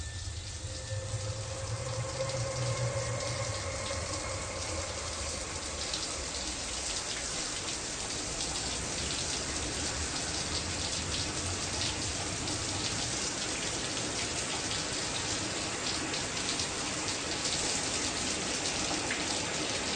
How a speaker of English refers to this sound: Jesus, Norman, turn the faucet off. You're wasting water.